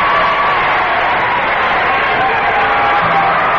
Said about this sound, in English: Let's hear a cheer for that, please.